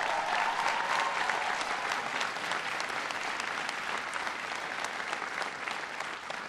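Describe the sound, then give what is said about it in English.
Sustained applause from a sizable audience honouring a veteran for his service to the country, a dense steady patter of many hands clapping at once, holding at an even, fairly loud level throughout without any voices. “Give James a big round of applause.”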